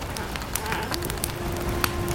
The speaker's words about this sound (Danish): Aften falder på, og et bål tændes.